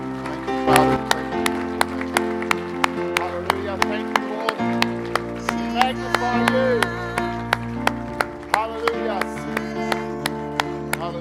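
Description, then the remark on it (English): Steady, evenly spaced claps from a church audience giving a clap offering to the Lord keep time over sustained keyboard or organ chords and a melodic voice line, the beat holding a brisk, regular pulse throughout. “Let's give the Lord a great clap offering.”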